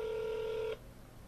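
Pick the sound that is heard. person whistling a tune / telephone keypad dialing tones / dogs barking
telephone keypad dialing tones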